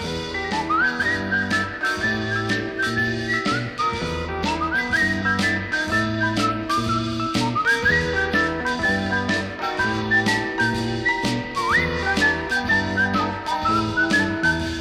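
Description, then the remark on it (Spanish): A bright whistled melody with upward slides carries over a steady, bouncy rock and roll band, with bass, drums and chords playing continuously underneath. “Llevo mis manos en la bolsa y voy silbando mi pegajosa fantasía en rock and roll.”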